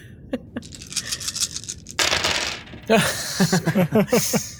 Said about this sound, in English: Oh, this is going to be a shit ton of dice.